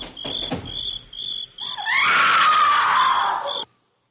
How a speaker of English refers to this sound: Sounds like a woman screaming. Oh, please, please, let's go back. I'm sure you've hit something.